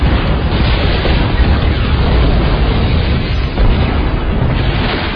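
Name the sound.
large explosion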